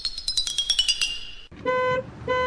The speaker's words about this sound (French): Un klaxon strident fit presque décoller Martin de son matelas.